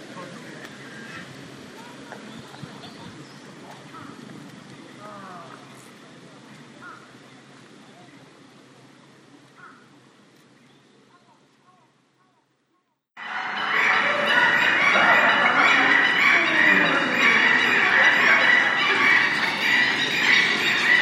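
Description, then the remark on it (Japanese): Quiet outdoor ambience with scattered faint calls, then suddenly a loud, dense chorus of many captive birds calling and honking at once, continuous until the end, at the Kakegawa Kachoen bird park. “さあ、お聞きいただけているでしょうか。野生のさえずり、まあ、飼育されてるから野生ではないわけなんですけれども、掛川花鳥園の鳥たち、サービス精神大変旺盛であります。”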